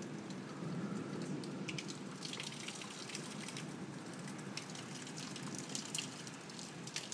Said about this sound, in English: You can no doubt hear the wind and the rain. It's not as heavy as what it was just before. The dripping you can hear as it coming off the roof.